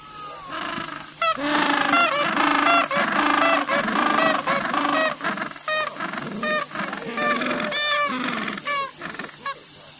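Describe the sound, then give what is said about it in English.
Gentoo penguins calling in a dense, loud chorus of harsh, honking brays that overlap almost without pause, rising and falling in pitch for the whole stretch, with no human voices. “Gentoo penguins.”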